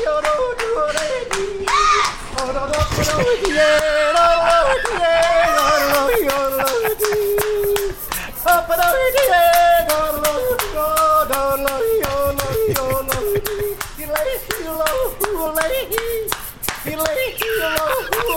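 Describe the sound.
A crowd at a Save Norm's breakfast event claps along steadily in time while a man yodels loudly over it, his voice leaping up and down in pitch above the continuous, rhythmic hand-clapping; people are dancing.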